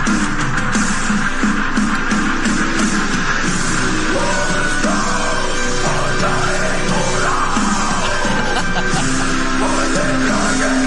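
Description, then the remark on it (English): Harsh, guttural death metal growls, sung by a beauty queen into a microphone, roar without pause over a dense, loud wall of distorted sound, the rasping vocal churning steadily for the whole stretch. “And it's such an odd visual to see this beauty queen, and she's just growling into the microphone.”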